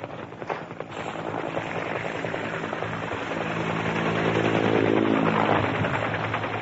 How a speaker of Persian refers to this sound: و آن دیگران را که لاینقطع با هلیکوپتر از راه می رسند و قدم در آن جاده‌ای می گذارند که به سوی نور، به سوی مطلع عشق گسترده است.